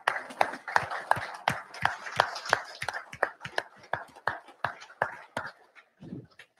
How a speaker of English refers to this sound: If you're new here to Prime this week in orientation, AC, BC, CC, DC, doesn't matter, or at any one of our terminals, Salt Lake, Pittston, if you could please stand and be recognized, we'd like to give you a round of applause.